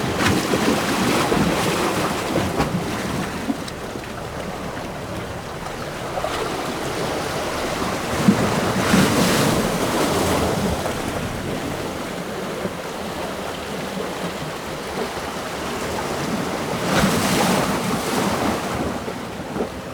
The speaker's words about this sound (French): Je suis au-dessus de la mer. La clameur des vagues qui se marient avec les récifs.